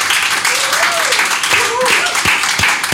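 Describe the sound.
An audience applauds in a dense, steady wash of clapping that holds at an even, fairly loud level for about three seconds, with a few voices and rising whoops mixed in.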